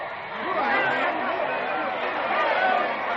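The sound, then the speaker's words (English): A crowd of over 1 million Nazis in Munich on 25 February 1934, taking an oath of loyalty to Chancellor Adolf Hitler, fills the air with a dense, steady roar of overlapping voices, a continuous babble of chatter with no single speaker standing out, loud and unbroken throughout. “You are standing in Munich watching a crowd of over 1 million Nazis take an oath of unswerving loyalty to Chancellor Adolf Hitler.”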